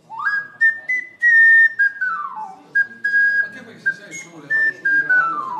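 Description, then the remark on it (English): An ocarina plays a simple melody of pure, breathy, high notes, some held long and others gliding down in smooth slides, with a soft murmur of background voices beneath it, in downtown Budrio during the Ocarina Festival. “I think this is the magic of Ocarina Festival, that you can listen to Ocarina sound everywhere downtown Budrio.”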